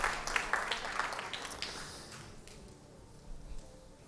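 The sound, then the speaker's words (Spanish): An audience applauds for the Lord during a sermon, a dense patter of many hands clapping that starts strong and steadily fades away over a couple of seconds, leaving a low murmur behind. “Un aplauso al Señor.”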